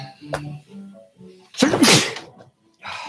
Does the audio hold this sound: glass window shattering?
no